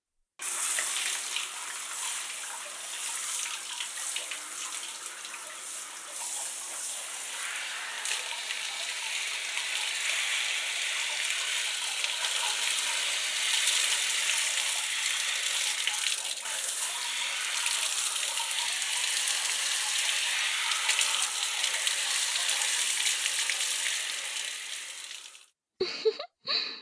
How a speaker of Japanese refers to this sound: 一度シャワーで流してしまいますね。